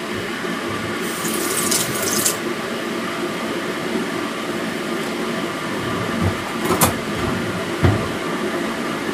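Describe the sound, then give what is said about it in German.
Water runs steadily from a kitchen tap in a continuous hiss while someone cooks, with a brighter splashing surge early on and a couple of short clinks near the end. No one speaks. “Na, derweil noch gar nicht so viel, also ich brauche einmal Wasser. Wasser jede Menge, Käse haben wir schon.”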